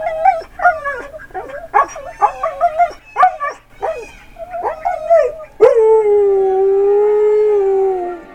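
A flurry of short, excited yips and barks gives way to the long, sustained howl of Lakota, a dog coaxed to howl with a barking hand puppet. The howl is loud and slowly slides downward in pitch, with no talking.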